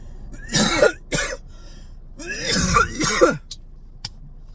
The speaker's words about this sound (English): Is it still offensive to cough in public in California?